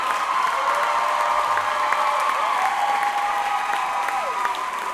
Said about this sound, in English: That's it for us. We're not coming back on stage. So don't clap loud.